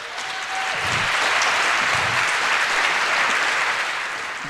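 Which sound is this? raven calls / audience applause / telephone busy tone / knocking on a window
audience applause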